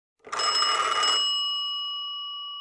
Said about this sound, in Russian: В столовой стояла такая тишина, что все вздрогнули. Вайолет, Клаус, Солнышко и даже тетя Жозефина, когда вдруг зазвонил телефон.